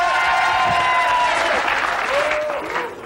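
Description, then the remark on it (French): A television studio audience bursts into sustained applause on cue from the warm-up man, a dense steady wash of clapping held at a loud, even level for about three seconds, with faint cheering voices mixed in. “Quand il veut que les gens applaudissent, il fait ça.”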